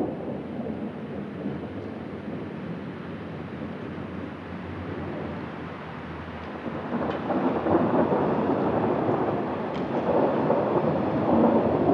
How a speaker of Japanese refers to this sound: 4月8日19時過ぎ、仙台市で突然春の雷が鳴り出しました。雷こそ二度と同じ音にはならないものの一つ。すかさずマイクを持って外に飛び出しました。